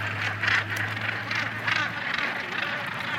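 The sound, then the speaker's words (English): Hundreds of birds on a path call continuously, a rich overlapping chatter of quacking, honking waterfowl voices rising and falling in waves, with a low steady hum underneath and no talking. “Now they're on it. Hundreds of them.”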